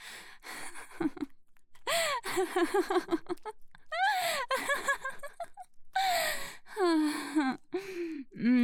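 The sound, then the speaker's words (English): Heavy, gasping breaths come in four rapid bursts separated by brief pauses, each exhale turning into a voiced, moan-like sound that rises and falls in pitch. No words are spoken. “Oh, I can hear you breathing harder.”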